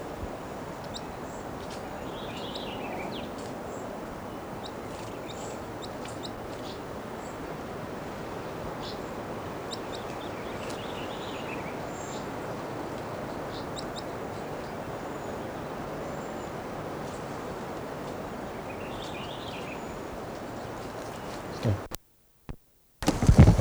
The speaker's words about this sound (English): Recording one of the wild birds just gave a song phrase.